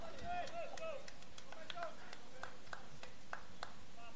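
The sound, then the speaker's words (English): Players in the Tarpons dugout cheer on pitcher Vinyard and the defense during a baseball game against the Cardinals at the Dean: a few short rising whoops and shouts, then scattered sharp claps and calls at irregular intervals over a steady, low background hum. “That's the Tarpons dugout if you hear anything. Cheering Vinyard and the defense on.”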